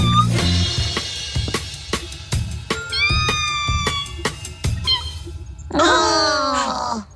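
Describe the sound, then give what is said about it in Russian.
A kitten in a small boat being carried out to sea meows in several high, wavering cries, with a louder drawn-out mew near the end, set against busy music and sharp percussive thumps. “Котенка в лочонке несет прямо в море.”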